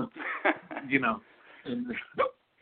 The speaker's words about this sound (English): and then you just look, sorry, I got the hiccups out of nowhere.